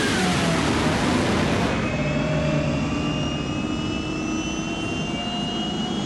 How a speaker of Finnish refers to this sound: Silloin kuuluu kuin moukarin isku, turbiinin karjaisu ja hirvittävä jälkisytytys.